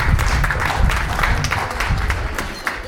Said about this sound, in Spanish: Un aplauso, por favor, grande.